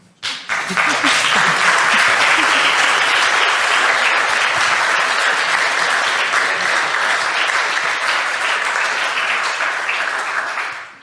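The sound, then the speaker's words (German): An audience at a talk where demos are shown claps steadily for about ten seconds, a dense, even wash of many hands at a loud, sustained level. A few faint voices can be heard under the applause at the start. “Man darf auch einfach klatschen, darüber freuen wir uns noch viel mehr.”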